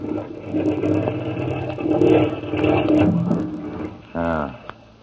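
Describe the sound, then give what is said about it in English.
A boat's marine engine runs with a steady, churning low rumble and broad wash of noise, then is sped up, briefly rising in pitch with a revving, buzzing surge near the end. “Know anything about marine engines?”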